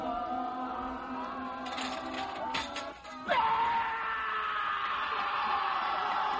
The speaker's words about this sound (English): Wow. What are you going to do? You're just screaming.